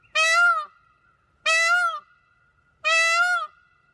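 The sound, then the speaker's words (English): Three loud, piercing peacock calls, each a brief wailing cry, repeated at a steady pace with short pauses between them. The calls stand alone with no talking or background noise. “It is a peacock call.”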